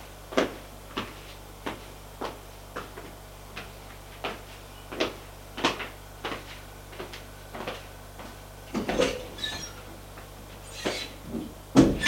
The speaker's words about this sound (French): Ils entrent. Elle ferme la porte.